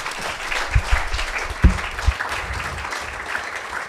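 A crowd applauds steadily, a dense wash of many hands clapping at an even loudness, with a few sharper thumps standing out early on.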